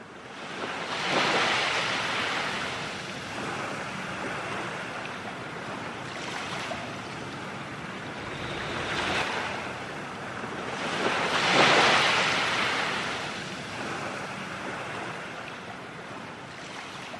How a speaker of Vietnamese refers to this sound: Vua ngồi chờ, tất cả đều yên lặng, và một con sóng nhỏ bủa vào bờ cát, làm tóe nước ướt chân vua.